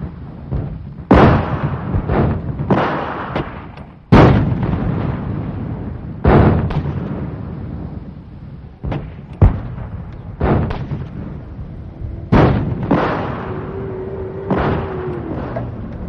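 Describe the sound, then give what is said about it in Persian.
Heavy gunfire and explosions in a palm grove as a vehicle carrying eight wounded escapes along a rough road. Loud, sharp blasts and bursts crack out at irregular intervals over a constant low rumble, several sounding powerful, with no voices. “8 مجروح، راهی ناهموار در میان نخلستان و ماشینی که باید خود را از جهنمی از گلوله برهاند.”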